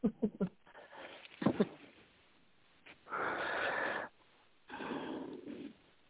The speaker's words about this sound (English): Well, maybe I'm hearing some heavy breathing.